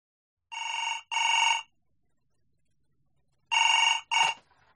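A telephone rings with a classic double ring, two short bursts, a pause, then two more bursts. The ringing is clear, with no voices.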